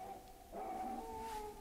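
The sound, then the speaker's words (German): A dog whimpers and whines in long, drawn-out tones that rise and waver, fairly quiet, with no talking. “Der Hund.”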